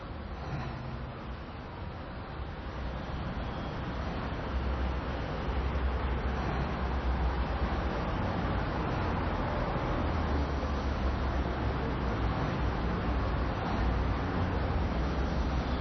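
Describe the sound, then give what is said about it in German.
Steady traffic noise from cars crossing at a street intersection, a continuous low rumble and hiss at a fairly constant level throughout, with no distinct single pass-bys standing out and no talking. “Von rechts kommt jemand, vor mir fahren die Autos quer.”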